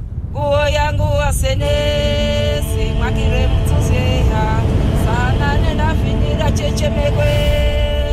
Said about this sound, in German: Senegal, ein Staat im Westen von Afrika. Dort, wo sich Pferdekarren unter Autos mischen und Luft nach Staub schmeckt.